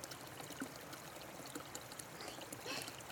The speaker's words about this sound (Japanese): 今ここでザーッと流れてる水たちも、その一粒一粒の元をたどってみたら、もしかして山の頂上と谷底と、遠く遠く離れて降った雨粒同士だったりして